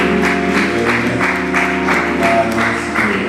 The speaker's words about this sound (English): I give that good man a round of applause.